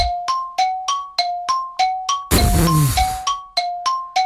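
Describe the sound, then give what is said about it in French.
A bright, ringing gong-like chime, struck during a quiz game, sounds rapidly about a dozen times, alternating between two close pitches, loud, with a brief noisy burst partway through. “Il y avait le gong, hein.”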